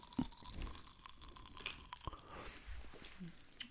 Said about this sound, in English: Girl, what? It's not that sour. I'm literally going to be like, why are you chewing it? Get more of the juices out. It's not that sour.